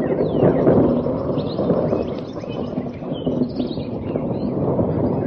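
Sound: thunder rumbling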